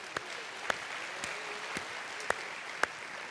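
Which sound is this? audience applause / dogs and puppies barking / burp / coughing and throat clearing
audience applause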